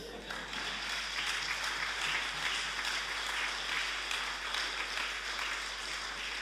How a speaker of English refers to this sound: End the poem, clap now.